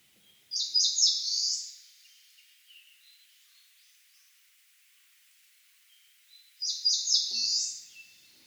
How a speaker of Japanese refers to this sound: 仙台虫食いは最後に濁った伸ばす声を加えることが特徴です。またよく似ていて数の多いメボソ虫食いとは住んでいる高さが違うことで区別できます。